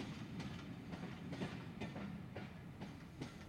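A train heading east rumbles steadily along the tracks, with rhythmic clickety-clack knocks from the wheels recurring every half second or so over a deep, continuous low roar. No voices are heard.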